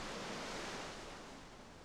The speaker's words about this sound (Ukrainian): І ці два звуки, це, мабуть, для мене дійсно і є звуки Антарктиди. Не звуки птахів, насправді, не звуки пінгвінів навіть, хоча ми їх чули цілодобово просто, а саме ось цей звук криги і води – це для мене звук Антарктиди.